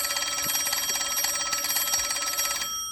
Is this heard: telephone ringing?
yes